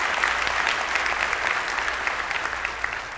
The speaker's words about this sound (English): Let's give Lord a clap offering for Epiphany.